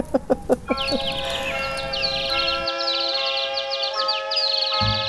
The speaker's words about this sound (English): How I love to hear those birds twittering in the trees.